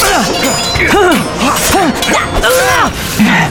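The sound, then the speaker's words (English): A loud flurry of swords clashing, clanging and ringing in quick succession, mixed with effortful grunts and shouts from fighters, over a dense, busy background. “The young warrior heard nothing but the near-constant ring of metal as he and his shaven-headed opponent exchanged vicious and furious flurries”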